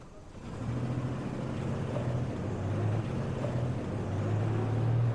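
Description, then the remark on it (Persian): A car engine starts up after a brief quiet moment and runs with a steady, low droning hum, fairly loud throughout with no voices, as the car is sent off. “تمومه آقا، بفرست ماشین بره.”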